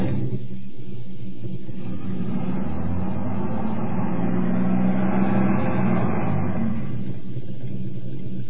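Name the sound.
car engine revving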